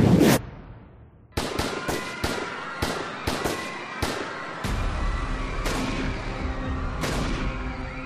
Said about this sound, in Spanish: Desde los tejados comenzaron los disparos. Procedían de todas partes.